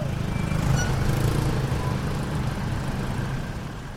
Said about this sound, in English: At the base of the SkyTrain, a motorcycle taxi driver repairs an engine.